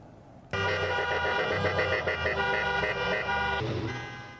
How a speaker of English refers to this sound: Blocking traffic, honking their horns to protest some of the strictest rules